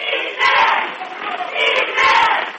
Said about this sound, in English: Now you can hear the Hoonah crowd get into it.